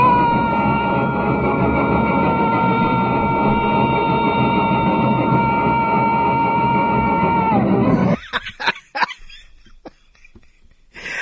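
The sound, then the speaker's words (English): Jerry Colonna lets out a long comic yell from the movie The Road to Rio, holding one steady, piercing pitch for about eight seconds before it cuts off into choppy bursts of laughter-like noise. “Can we have one more yell from Jerry?”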